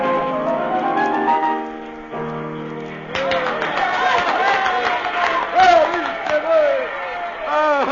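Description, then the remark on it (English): A crowd of many overlapping voices in a full cafe cheers and shouts excitedly for more, following a few seconds of sustained musical tones. “The cafe is filled. Everyone is shouting for more.”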